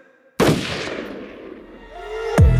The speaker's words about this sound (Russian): Ружье в моих руках, и оно выстрелит.